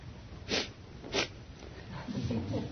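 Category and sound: human body sound, sneeze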